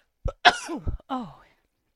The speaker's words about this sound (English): Excuse me. I didn't get on the mute button fast enough. Rude. Sneeze right in someone's ear.